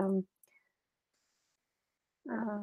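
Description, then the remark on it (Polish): A single soft computer mouse click, brief, in a quiet pause between bits of a person talking. “wydaje mi się, że zaraz kliknijmy sobie.”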